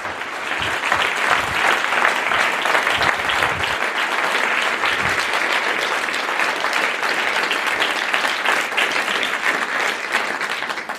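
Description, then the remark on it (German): An audience applauds steadily for about eleven seconds to welcome a speaker to the stage, a dense, even wash of clapping that stays loud throughout with no voices on top. “Bitte einen aufbrannenden Applaus hier.”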